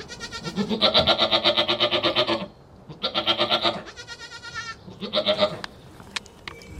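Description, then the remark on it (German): Several dairy goats bleat loudly in a farm stable, with long wavering cries overlapping one another in quick succession, separated by brief pauses and a few faint clicks. “Die älteren Ziegen behalten ihre Lämmer und werden trotzdem morgens und abends gemolken.”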